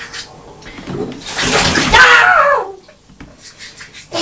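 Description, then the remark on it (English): A short rush of cold water pours from the cold tap into a bath, loud for about a second and a half, with a high squealing voice rising over it as the water lands on someone's feet, before it cuts off. “when cold water comes out of the cold tap and lands on his feet.”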